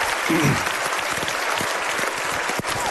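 A steady burst of audience applause, dense overlapping claps at an even loudness throughout, with a few sharper individual claps standing out and faint voices mixed in.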